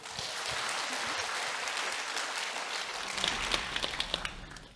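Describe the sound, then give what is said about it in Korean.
A room full of people claps together in dense, sustained applause, steady for several seconds with a few sharper individual claps standing out near the end. “다 같이 박수.”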